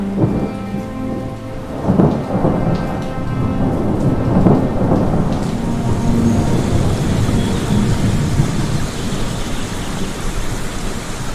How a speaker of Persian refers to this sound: وای خدای من، نگاه کنید، باران. خدایا شکرت، انگار معجزه شده. بله بچه ها، همین که حضرت ابا عبدالله الحسین علیه السلام دعایش تمام شد و آمین گفت، ناگهان ابرهای بسیاری در آسمان پدیدار شد و باران رحمت شروع به باریدن کرد.